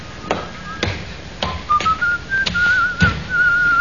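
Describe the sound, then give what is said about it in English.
A man holding a baggage check whistles a wavering tune, clear, the pitch climbing in short phrases while sharp taps or footsteps sound at a regular pace underneath. “It's the check you've been waiting for, that fella there, whistling.”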